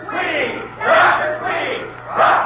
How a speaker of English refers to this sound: Yes, did you hear that, Mr. Potts? They cheered me when I came in.